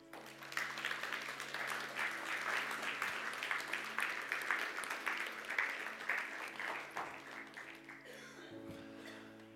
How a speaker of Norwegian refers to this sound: De kom opp her. De må få en applaus.